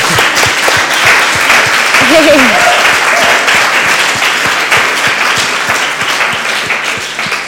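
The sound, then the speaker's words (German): Sustained applause from a crowd for the band fills the space, dense and steady claps throughout, with a brief voice or cheer rising faintly in the middle before the clapping slowly tapers. “Können wir der Band nochmal einen Applaus geben?”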